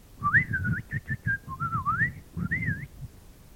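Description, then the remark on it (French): A bird-call whistle cut from an elder branch and carved with a knife plays a run of short, warbling phrases that slide up and down like birdsong, fairly loud, with a soft low rumble underneath and no talking. “Quand Martin se sert de ses sifflets, il produit des sons qui ressemblent au chant des oiseaux.”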